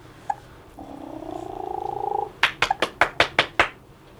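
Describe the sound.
A woman makes a drawn-out, rolling purr-like sound with her voice, then claps her hands about eight times in a quick, steady burst, fairly loud, so a baby will look up.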